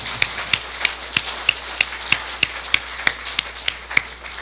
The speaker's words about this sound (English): 我们给她一个爱的鼓励好吗 ？Let's encourage her with applause.